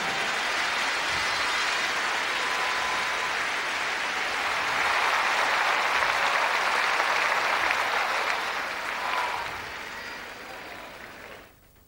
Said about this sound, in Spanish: Yo creo que se merece una mejor ofrenda de aplausos, ¿no es cierto?